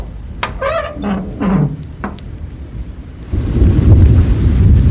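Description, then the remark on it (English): A few brief whistling calls sound first, then a dense, steady roar of heavy rain sweeps in and continues loudly to the end, with a low rumble underneath. The heavy rain is falling in a park, heard from inside a small gardeners' hut. “The rain was falling heavily now.”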